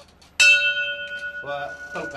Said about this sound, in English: With the last puff at his cigarette, he flips a switch on a vintage amplifier, picks up his microphone, and reaches for the starter's bell.